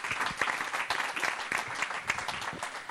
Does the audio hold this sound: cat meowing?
no